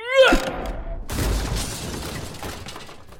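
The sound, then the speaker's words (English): A few quick electronic tones give way to a loud crash as a gambling machine lands on its painted glass face on a road, High Holborn, the glass shattering, with a rattling, noisy tail that slowly fades. “No sooner had it landed on its painted glass face with a smash than a swiftly moving bus happened by, making short work of the stupid plastic glass box.”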